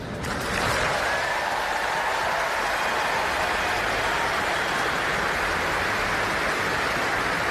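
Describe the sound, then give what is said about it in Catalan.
A large audience gives a sustained ovation to Sarah Gilbert, developer of the Oxford AstraZeneca COVID vaccine, after an announcer introduces vaccine developers. Thousands of claps blend into a steady, dense roar that begins abruptly and holds at an even, loud level throughout, with no voices. “Queda't amb l'ovació, encara no s'ha acabat, encara no s'ha acabat.”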